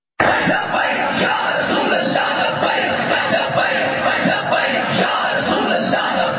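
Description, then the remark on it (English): A large street crowd shouts and yells at once, a dense, steady roar of many voices that starts abruptly and stays loud throughout, with no single voice standing out; a man screams 'Friends of blasphemers deserve death' and the crowd joins the chant. “It is a massive sea of people. He is screaming, "Friends of blasphemers deserve death."”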